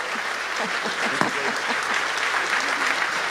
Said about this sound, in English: Big round of applause.